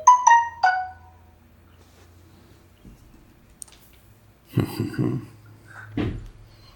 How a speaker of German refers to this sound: Ich habe Flugzeugmodus geil drin, das war eine App-Benachrichtigung. Ah. Das tut mir wirklich leid.